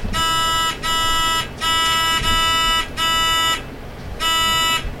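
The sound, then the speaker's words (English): Loud electronic quiz buzzers are tested in a buzzer check before a round. They sound in a series of harsh, sustained blasts: two quick pairs, then a single one, and a final short buzz after a pause, with a faint murmur underneath. “Okay, so let's do some buzzer check.”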